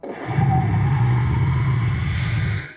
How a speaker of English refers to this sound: The rocket ship started lifting off in the air, but it only got a foot before. The engine sputtered out and it fell back to the ground with a big burst of rocket fire.